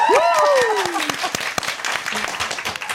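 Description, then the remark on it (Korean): A studio audience breaks into dense, steady applause, many hands clapping at once. A voice cheers over the start, its pitch sweeping down, while the clapping continues loudly to the end. “방청객 여러분 네. 박수 한번 주세요.”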